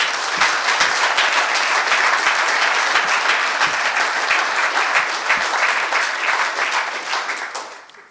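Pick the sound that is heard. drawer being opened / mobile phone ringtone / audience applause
audience applause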